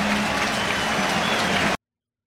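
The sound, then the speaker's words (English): A baseball stadium crowd cheering a strikeout pitched by the Miz on the mound in an afternoon game, in a loud, steady roar of massed voices and clapping that holds for under two seconds, then cuts off abruptly into silence. “Listen to this crowd.”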